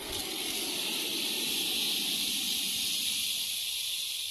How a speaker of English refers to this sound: You're listening to a diamondback rattlesnake that's been disturbed and is letting you know that it's ready to strike if you get any closer.